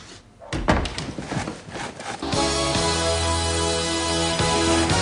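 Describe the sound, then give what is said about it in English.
A door swings shut as a mother leaves, with a couple of dull thuds and some rattling, then steady, loud music with sustained tones starts and plays to the end. “As her mom leaves, closing the door behind her”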